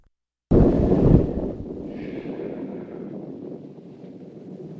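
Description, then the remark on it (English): Thunder in a film scene, as a woman kneels praying at a grave, breaks suddenly out of silence with a loud, deep crack, then rolls on as a heavy low rumble that slowly fades. No voices are heard. “So let's go back to the beginning of the scene where it's starting to thunder and she's kneeling at the grave praying.”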